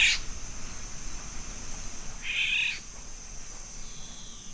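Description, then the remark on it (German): A golden oriole gives two harsh, rasping calls, its croaking, crow-like call rather than its fluting one, a brief one first and a longer scratchy one after a pause, heard alone over a steady faint hiss with no one talking. “Und ja, der Pirol ist ein Vogel, den ich sehr gern mag. Und er hat zwei sehr unterschiedliche Rufe.”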